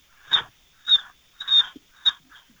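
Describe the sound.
A voice imitates a day-old chick with four high, squeaky peeps in an uneven rhythm, plus a softer fifth one at the end. It is close and moderately loud, with no talking.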